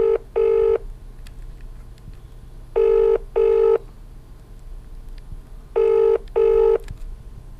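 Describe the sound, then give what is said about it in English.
Ringback tone of an outgoing phone call: three double-burst rings, each pair followed by a pause of about two seconds, clear and steady over a faint low hum, with no voices. “Oh, it's ringing this time.”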